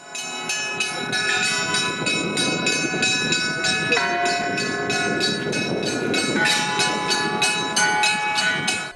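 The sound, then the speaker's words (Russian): Church bells peal continuously in a rapid, steady rhythm, their overlapping ringing tones loud and sustained over a low background rumble, at the Church of the Archangel Michael in Mikhailovsk on 21 November, announcing the start of a bishop's service for the church's patronal feast. “21 ноября в храме Архангела Михаила города Михайловска радостный звон колоколов возвестил о начале архиерейского богослужения в честь престольного праздника храма.”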